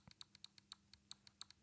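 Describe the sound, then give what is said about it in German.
A rapid series of about a dozen crisp, light plastic clicks from a game controller trigger locked so it clicks like a mouse button, pressed at a quick, slightly uneven pace, clear with no talking. “Oder man kann den Trigger sperren und dann sind das Mausklicks.”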